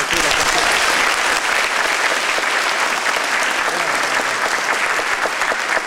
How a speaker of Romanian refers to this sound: Mi-ați spus puțin mai devreme că aveți emoții, dar sunt convinsă că acum le-ați răpășit, mai ales dacă veți fi încurajată de aplauze, așa?